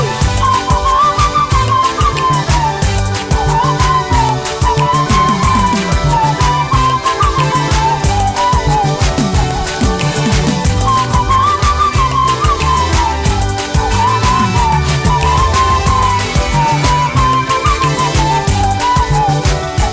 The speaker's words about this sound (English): Oh, it is time to sing a song. Let's sing the song in a whistle. Whistle the song unto God.